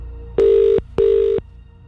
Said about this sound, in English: So let's find out if they're going to pick up the phone, because that is always a risk. It's time to make the call back. Is this your phone? If it is, pick it up.